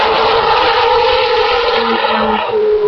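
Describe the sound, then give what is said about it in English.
A loud, high-pitched engine of an older Formula One car screams steadily, its tone holding then shifting slightly as the car passes, with no voices over it. “We're shortly going to be watching Williams tester Nico Hülkenberg come round in one of the older cars”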